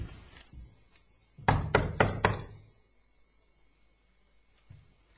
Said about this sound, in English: In there. Do you think we should knock? Yeah.